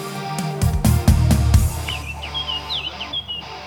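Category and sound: bird, bird chirping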